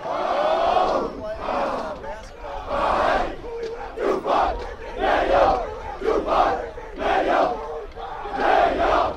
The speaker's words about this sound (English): We're about 30 minutes before kickoff. The teams are on the field. They're doing their drills. They're clapping their hands. They're doing their chants.